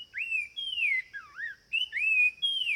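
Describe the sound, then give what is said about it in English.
A Sumichrast's wren sings a run of clear, pure whistled notes, each sliding up or down in pitch, delivered loud in quick succession with no other sounds around it. “Now, here again is the Sumacrest's wren.”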